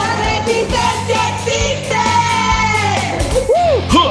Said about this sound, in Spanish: todas feministas, chilangas, renegadas del feminismo, como ella sí misma se presenta y dando este grito.